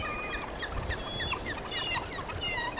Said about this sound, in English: Eagles and seagulls feasting on chum salmon, and photographers with foot-long lenses clicking away as they watch the raptors.